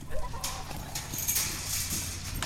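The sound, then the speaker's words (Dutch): Hooves of walking donkeys clip-clop in an uneven, unhurried rhythm over a low outdoor rumble as they walk along with a person, several steps sounding clearly, with no one speaking. “Ze lopen toch met mij mee.”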